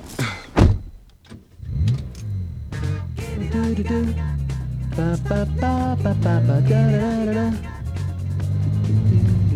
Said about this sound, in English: I'm currently at my front door. I'm getting in my car.